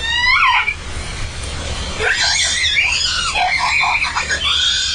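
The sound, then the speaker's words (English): A whale calf, trailing behind its mother as the whales dive and pass by, screams in shrill, rising and falling squeals: one brief cry at the start, then a longer run of wavering calls over a steady low underwater rumble. “And as they dove, that calf came off her rostrum and they went past, and you could see the calf behind them and you could hear the scream.”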